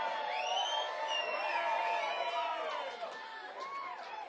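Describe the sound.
A lively crowd cheers and whoops with rising and falling shouts, a dense wash of voices and some clapping, loud and sustained for about four seconds before easing slightly.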